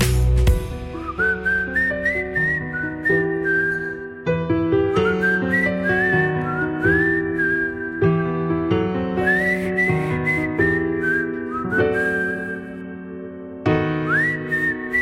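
A bright whistled melody glides and swoops over steady instrumental backing, phrases repeating in a lively rhythm at a full level with no voices.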